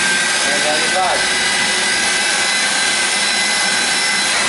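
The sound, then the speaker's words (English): A loud, steady roar of a vacuum drawing all the air out of a plastic bag being vacuum sealed around a person, a continuous rushing whine with a brief crinkle near the start. “There goes the vacuum.”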